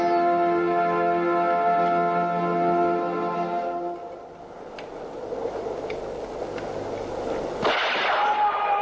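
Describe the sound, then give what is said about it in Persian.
A sustained tonal drone fades into a rumbling, noisy backdrop where several sharp rifle shots ring out at irregular intervals, ending with a louder, heavier blast, as armed men open fire on a gendarmerie post in Iran and the officers take cover. “با شلیک دادشاه و مرگ نگهبان دستور حمله صادر شده. مبارزات تیراندازی رو شروع میکنن.”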